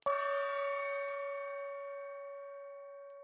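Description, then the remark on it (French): A single bell strike marking ten o'clock rings out clearly, its bright metallic tone sustaining and slowly fading over several seconds with no other sounds around it. “La cloche sonne 10 heures.”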